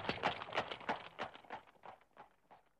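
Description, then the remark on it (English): Hooves of four strong horses pulling a big covered wagon clip-clop in a steady, even rhythm, about three beats a second, gradually fading, with no voices. “4 strong horses pulled the big wagon.”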